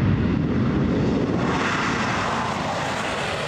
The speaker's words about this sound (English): On a wet Missouri morning, a B-2 lifts off into the gray sky on its way to practice bombing runs in Alaska's remote Yukon Range.